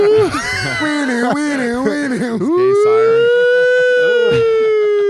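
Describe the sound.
A man imitates a siren with his voice, wailing in sweeping rises and falls before holding a long, loud, steady tone.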